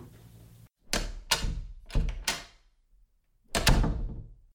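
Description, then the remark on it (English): A door opens with a series of solid clunks and thuds, a few sharp knocks close together followed by a heavier rattling bump after a short pause. No one speaks. “Didn't you lock the door,”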